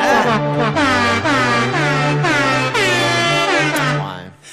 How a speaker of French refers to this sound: C'est un klaxon gazou, ça? Oui! C'est la Marseillaise au gazou! C'est des fous braques qui m'ont fait cette version-là!